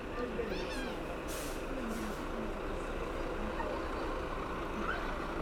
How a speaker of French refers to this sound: Soudain, notre vue est masquée par un camion gigantesque qui s'arrête en travers de la place. Il porte des sacs soigneusement empilés, des sacs énormes en piles de 10 et en rangées de 6 ou 7 de large.